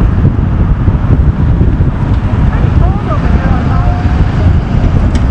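Steady, loud roar of road traffic outdoors on a cold day, heard while sitting looking at a statue; a dense low rumble with wind buffeting the microphone and faint higher tones of passing vehicles drifting through.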